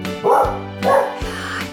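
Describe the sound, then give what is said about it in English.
A farm dog barks twice in quick succession, loud, with a fainter third bark trailing off, each bark a sharp burst with a rough, throaty edge. “meeting Milo, the adorable, hardworking farm dog”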